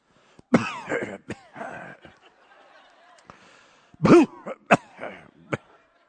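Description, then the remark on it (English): A woman coughs in several sharp bursts, then clears her throat with rough rasping sounds in between, pausing briefly before another loud cluster of coughs. “Just cough it right out.”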